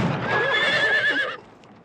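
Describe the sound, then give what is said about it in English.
A horse gives a loud, shrill whinny lasting over a second, its high pitch quavering before it cuts off abruptly into near silence. “Charlie slowly climbs up onto his horse.”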